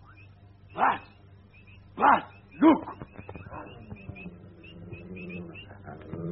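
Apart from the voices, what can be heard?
dogs barking and growling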